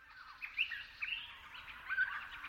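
A Gang-gang cockatoo, a small gray parrot with a bright red crest native to the alpine forests of southeast Australia, gives a few harsh, creaky calls in quick succession, raspy and grating, heard alone with no voices.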